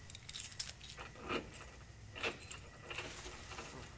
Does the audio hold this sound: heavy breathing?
no